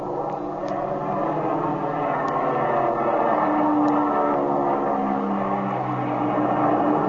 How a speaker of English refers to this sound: Here, I'll take the plane. We'll dive down and see if the pilot's in trouble.